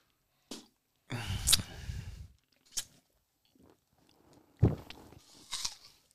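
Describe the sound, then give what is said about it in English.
Swallowing and wet mouth noises, a few irregular bursts with a crunchy, chewing quality separated by short quiet gaps, fairly loud with no talking. “That picked up my my prime swallowing technique.”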